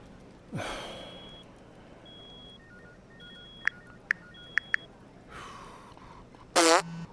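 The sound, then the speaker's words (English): A notification goes off on Mark Alan Nichols' phone, left with its settings unchanged under crime scene protocol: a rasping, breathy burst, faint intermittent beeps and a few sharp clicks, then a short, loud electronic warble at the end. No one speaks. “God, can someone come and mute Nichols' phone? Or change the bloody notification sound?”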